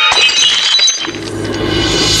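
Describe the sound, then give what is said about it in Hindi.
A flying glass tumbler strikes a chair and shatters loudly, a bright burst of breaking shards followed by a second or so of tinkling, settling fragments and a low rumbling tail. No voices. “एक कांच का गिलास उड़ता हुआ आया और सर के पीछे से होता हुआ सामने की कुर्सी से टकरा गया।”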